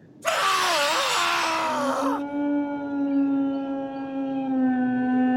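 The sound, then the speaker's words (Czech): A dog howls at night in one long, drawn-out cry, starting harsh and raspy before settling into a steady, mournful wail that holds for several seconds. Loud and fairly close, with no talking. “To je ten pes, vykřikl Holmes.”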